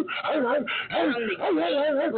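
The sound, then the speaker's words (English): A rapper imitates a dog during a battle rap performance, with a quick series of loud, bouncy barks and yelping whimpers, the pitch swooping up and down over about two seconds. “… came with the energy barking.”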